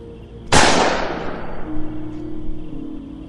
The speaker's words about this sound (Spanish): Jalé el gatillo, el arma hizo un ruido fuerte de disparo, pero no se sacudió.